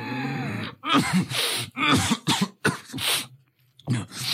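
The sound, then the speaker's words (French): A series of harsh, wet coughs in close succession, separated by short raspy, congested breaths, with no talking, from someone with a heavy cold in a dark room with a small bed and a chair. “On entend la toux et la respiration de quelqu'un qui est très enrhumé.”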